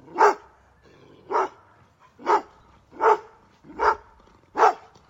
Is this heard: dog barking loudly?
yes